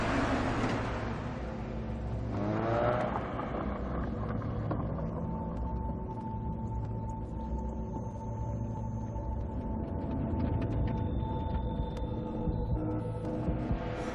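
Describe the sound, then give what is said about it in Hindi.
A steady, droning car engine runs as the vehicle drives along, a low rumble with a faint mechanical whine and occasional creaks, with nobody speaking. “गाड़ी रोकिए वरना मैं नीचे कूद जाऊंगी।”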